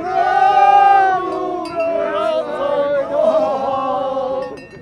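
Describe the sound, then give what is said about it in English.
Polish fans in the stands, in native costumes and carrying flags, chant in unison a brief cheer for ski jumper Małysz, loosely meaning "Long live Małysz, may he be forever happy", voices rising and falling in a sustained sung melody, loud and steady throughout. “Other spectators asked them to pose for pictures and repeat for their video cameras their brief cheer for Małysz.”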